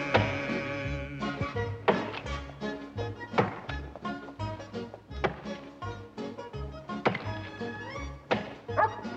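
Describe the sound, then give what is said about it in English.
Repeated heavy thunks of an axe chopping wood, struck roughly once a second, ring out over continuous orchestral music with singing. “A dozen men in here, bellowing for victuals, and you out chopping wood.”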